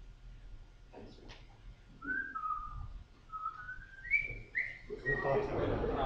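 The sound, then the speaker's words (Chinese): Someone whistles a short, lively melody, the theme tune of the film The Bridge on the River Kwai: a run of clear sustained notes stepping upward, ending as a burst of broad rustling crowd-like noise rises underneath. “我要分一个口哨吼，我你要猜谜啦。看你会记得迄是得一出电影主题曲吼，希望我分得准啦。”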